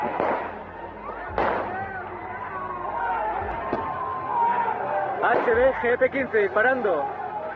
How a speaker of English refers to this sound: That is, until Coben steps out, pulls his gun, and starts firing.